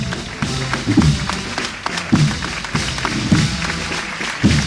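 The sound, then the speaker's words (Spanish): A crowd applauds steadily as the palio of the Virgen del Rosario enters the parish of La Milagrosa, the costaleros kneeling; the dense crackle of many hands clapping continuously, with low murmuring swells of voices rising and falling underneath. “Los aplausos del público y los costaleros que siguen de rodillas, Manolo, incluso dentro de la iglesia.”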